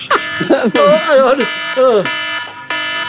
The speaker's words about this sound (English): Oh, it's the alarm.